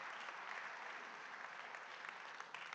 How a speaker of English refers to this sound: Now that's a halfway decent golf clap. Hopefully you'll do a little better on this one.